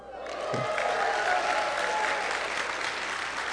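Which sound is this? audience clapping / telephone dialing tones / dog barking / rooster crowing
audience clapping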